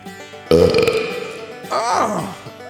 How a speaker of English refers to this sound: taste my wet belch, Rolling Stone Country!